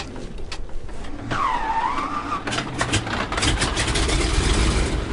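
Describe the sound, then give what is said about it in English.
A floatplane engine drones steadily as the plane, pushed off with a shove, taxis to the far end of a lake, a broad continuous rumble that swells slightly, with a brief wavering, whistle-like tone rising over it early on. “With a shove, the floatplane taxis to the far end of the lake, where a pair of red-throated loons watches with alarm.”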